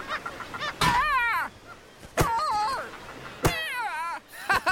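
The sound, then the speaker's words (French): Northern gannets calling in a colony at the Rochers aux oiseaux (Bird Rocks): loud, harsh, grating cries repeat in quick bursts, several birds overlapping with brief gaps between volleys. “la Grande Hermine arrive à un endroit qui s'appelle les Rochers aux oiseaux, plein de fous de bassin.”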